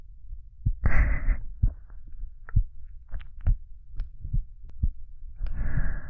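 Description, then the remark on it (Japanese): A muffled heartbeat thumps steadily at a slightly quick pace, having sped up a little, with soft whooshing breath-like noise swelling at the start and end. “ドキドキしてるのかな。”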